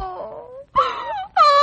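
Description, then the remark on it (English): Someone cries in three drawn-out, wailing sobs, the first sliding downward in pitch and the next two louder and steadier, with brief gasping pauses between them and no words. “Oh, well, what are you crying about?”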